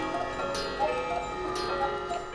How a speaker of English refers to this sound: in Alexandria, Virginia, is a little like stepping into the past, into Geppetto's workshop, a small, crammed space completely filled with clocks and clock tools, grandfather clocks, cuckoo clocks, watches from World War II, the hour strikes, and...